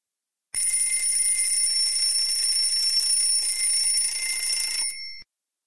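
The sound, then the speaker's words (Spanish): A loud, shrill alarm clock rings at eight in the morning, continuously for about four seconds, a sustained metallic buzzing with bright high tones, then cuts off abruptly. No one speaks. “Suena el despertador.”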